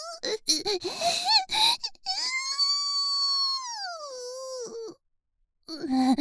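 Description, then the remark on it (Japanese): After a couple of seconds of talking, a person lets out a long, drawn-out voiced yawn that slowly sinks in pitch before trailing off into silence. “生だしであくびする。”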